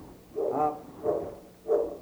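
A St. Bernard dog barks three times in a slow, fairly even rhythm, each bark a short throaty burst at moderate volume, with no voices around it.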